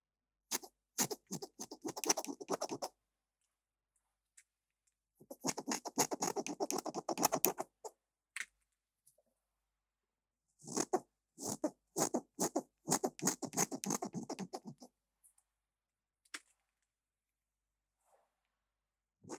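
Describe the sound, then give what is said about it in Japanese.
Crisp snipping of scissors cutting hair in three bursts of rapid, rhythmic snips separated by short pauses, with no voices present. “私はこれからそれに気づかせてあげるから。ハサミ入れるよ。”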